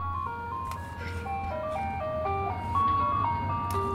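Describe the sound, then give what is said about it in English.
A tinny ice cream truck jingle plays a bright, stepping melody of clear tones over a steady low engine rumble, moderately loud, with no voices. “you got the ice cream truck back, didn't you?”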